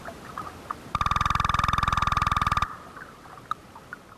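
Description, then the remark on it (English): A striped cusk-eel's advertisement call, recorded on the Cape: a rapid, even train of about forty knocking pulses lasting under two seconds, buzzy and woodpecker-like, with a steady mid-pitched tone running through it. “this is the sound of a striped cuscule that this particular example I recorded on the Cape”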